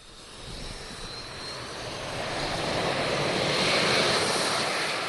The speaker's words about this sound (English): A small Russian cargo jet designed for extremely short takeoffs and landings touches down on a makeshift runway on the ice 60 miles from the North Pole.